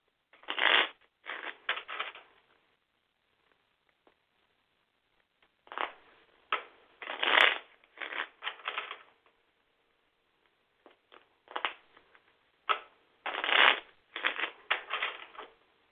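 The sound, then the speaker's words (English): A deck of cards is shuffled in three separate bursts, each a quick riffling flutter of papery snaps, with brief quiet pauses in between and no voices, shuffled during a phone call on speaker. “Let me put you on speaker while I shuffle.”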